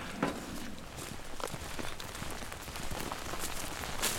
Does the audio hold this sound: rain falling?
yes